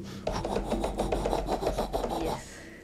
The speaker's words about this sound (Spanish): Era su perro, desesperado, afuera de su cuarto, arañando la puerta.